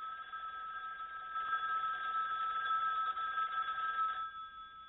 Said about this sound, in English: Or that telephone ringing.